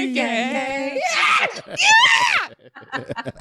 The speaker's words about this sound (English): Sorry. Didn't mean to screech at you, but there was the screech of the week right there. It's a screech of the week. Screech of the week.